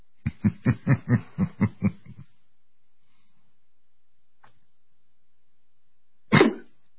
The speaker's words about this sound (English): I tried to stifle that cough. I apologize.